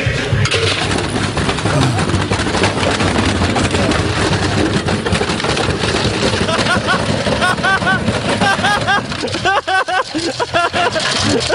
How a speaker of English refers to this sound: Have you ever wondered what it would sound like if you threw a brick into a washing machine? All right, it sounds great.